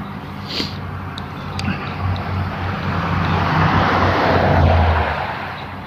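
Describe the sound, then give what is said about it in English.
A large vacuum truck picking up leaf litter on the side of the road roars steadily, its deep engine hum beneath a broad rushing suction noise that swells a little louder toward the end, with no one talking. “could be one of the big vacuum trucks.”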